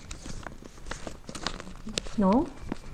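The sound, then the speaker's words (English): A single piece of paper rustles and crinkles in a steady series of soft, irregular crackles, with a brief voice sound rising near the end. “I think I have given you the one hand up, right? One piece of paper.”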